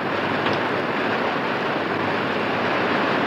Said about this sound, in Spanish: Pero, de repente, el cielo empezó a ennegrecerse y cayó sobre el lugar una verdadera tromba de agua.